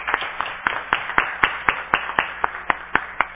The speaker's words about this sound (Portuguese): As palmas são para os nossos atletas, para os nossos agentes culturais.